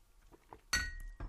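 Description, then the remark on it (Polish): Someone drinks freshly made coffee from a cup: a few soft quiet sips, then a sharp, ringing clink of the cup touching down, followed by a second duller knock, with no talking. “Pozwolisz, że napiję się łyka kawy, którą specjalnie sobie zrobiłem dzisiaj.”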